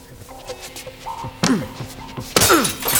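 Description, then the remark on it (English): A glass case holding a fire extinguisher is struck and shatters through a towel: a dull muffled thump, then a louder crash with bright breaking glass and ringing fragments, over a low background. “Man, it's a glass case. Guess I have to use a towel.”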